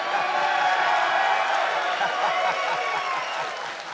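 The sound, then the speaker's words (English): A large wrestling crowd chants "you suck" at Kurt Angle as he comes out, a loud, dense roar mixed with clapping and cheers, holding steady throughout before easing slightly at the end. “How does that make you feel when you come out after all these years and the term of endearment that they choose to cheer is, you suck?”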